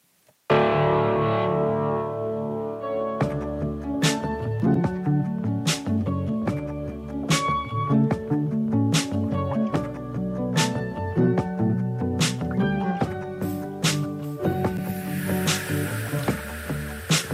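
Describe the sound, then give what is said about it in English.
A song's instrumental intro, the rotation song for the week, plays loud: dense sustained chords open it, then a steady drum beat kicks in after a few seconds and drives on with no vocals. “And, yeah, this is our rotation song for the week, and I'll be back in, like, 3 minutes to say my goodbyes, and thanks so much for listening.”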